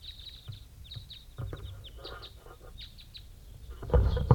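Repeated short, sharp chip calls from several captive crossbills, including a juvenile, caught in a net and put in a cage numbered 35. The calls are high-pitched and overlap in an irregular stream, with a few bumps and a louder thump near the end.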